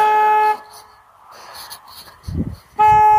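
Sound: car horn honking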